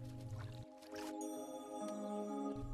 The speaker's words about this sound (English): A tiny winged insect flaps and lifts itself up from the water tension on the surface of the river.